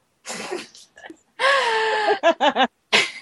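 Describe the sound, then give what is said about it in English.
A loud, drawn-out belch with a low, rough tone, followed by three short croaking bursts and preceded by raspy, throaty noises and breaths. “As the fight outside of Mount Doom raged on, Aragorn belched loudly.”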